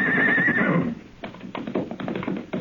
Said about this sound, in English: His horse saw us and ran.